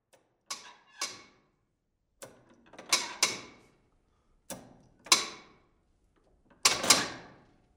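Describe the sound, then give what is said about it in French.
Heavy mechanical clunks and clicks from a tower clock mechanism, whose descending weights drive the gears, sounding in irregular pairs and clusters of sharp metallic knocks that ring briefly, with no voices. “Elle fonctionnait avec un système de points qui descendait, qui entraînait les engrenages, mais qu'il fallait remonter très régulièrement.”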